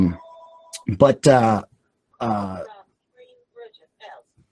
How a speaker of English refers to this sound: You'll have to forgive us. We got some phones ringing. That's all right. In the studio.